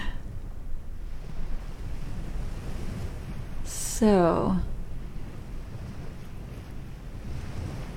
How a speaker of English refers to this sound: A quiet beach, nothing but the sound of ocean waves, a crescent moon in the sky.